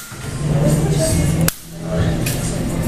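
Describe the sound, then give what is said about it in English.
A single crisp slap of a fresh mint leaf struck against an open palm to release its oils for a cocktail cuts sharply through a steady backdrop of low room noise and faint murmuring voices. “Then I'm going to take a fresh mint leaf and slap it on my hand to release the oils.”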